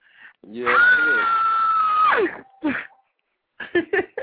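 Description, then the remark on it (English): A person lets out a loud, sustained scream of horror lasting over a second, rising sharply and then cutting off, followed by a few short vocal bursts and brief talk. “I'm even screaming.”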